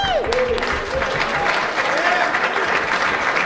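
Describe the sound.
Steady, dense audience applause at a bikini contest, with many hands clapping at once, loud and sustained throughout, with faint whoops and voices mixed into the wash of claps.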